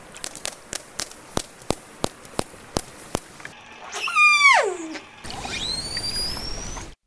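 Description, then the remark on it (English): A steady series of about a dozen sharp orca echolocation clicks, then a loud descending harmonic call, followed by a high, rising whistle over hissy underwater noise. “Yeah, so first you were hearing a few echolocation clicks. And after that, another sound these animals make, and this is definitely in a higher frequency range, right?”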